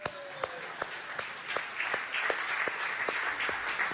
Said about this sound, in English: Why are you clapping for a dummy?